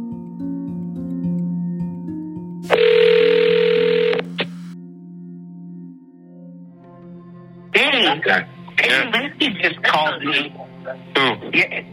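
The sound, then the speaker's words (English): A phone line hums with steady tones while a three-way call is dialed and rings through, with a brief burst of line noise, before a voice comes on the line near the end. “I think that you should call him right now on three-way.”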